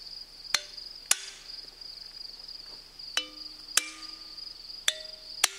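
Six sharp, ringing hammer strikes on a stone being split into two pieces of equal mass, loosely grouped in pairs, each clang leaving a brief metallic tone, over a steady high chirring of insects. No one speaks.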